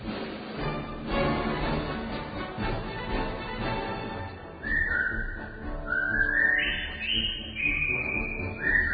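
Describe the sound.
Several British soldiers in a film whistle a jaunty marching melody in unison as they march into a prisoner of war camp, the bright tune rising and falling over a busy background of crowd noise and ambient clatter, growing clearer and louder in the second half.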